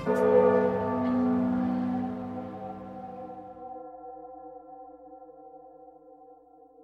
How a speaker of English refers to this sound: that tolling of the bell and those shouts, though he doesn't know it, spell a threat to the mariner, whose ships even now gather in the harbor outside of Nordia, waiting to strike.